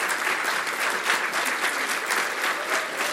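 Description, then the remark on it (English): A crowd applauds the teachers at a Poetry Out Loud recitation event, many hands clapping in a dense, even roar of claps that holds at a fairly loud level throughout, with no voices standing out. “We recognize your contribution and applaud your achievements.”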